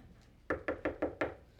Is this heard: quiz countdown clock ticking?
no